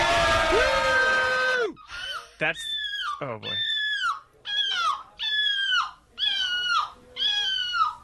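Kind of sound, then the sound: vocal imitation, people imitating seagull calls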